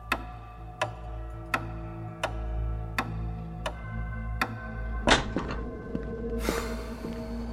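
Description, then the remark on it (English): A hall clock ticks steadily at an even, unhurried pace, crisp over a low background hum, before the ticking gives way to a couple of duller knocks and a soft rushing noise. “Ah, perhaps it's our clock in the hall. A remarkable timepiece.”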